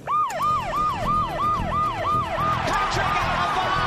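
A loud emergency siren yelps in fast, repeating rising-and-falling sweeps for the whole stretch, over a low rumble of traffic or engine noise, during a TV skit at Mount Smart Stadium, New Zealand.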